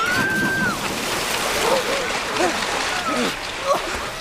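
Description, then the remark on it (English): Loud, churning water splashes and sloshes steadily as people fall and thrash in it, with faint shouting voices rising through the noise. “Stop it! We'll end up in the water!”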